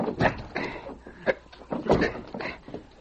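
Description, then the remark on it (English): Several men shove together against the back door of an office to bust it open: a series of irregular, muffled thumps and scuffs mixed with strained, breathy effort sounds, rising and falling at moderate loudness over a few seconds. “All we have to do is give a good shove against the back door of the office.”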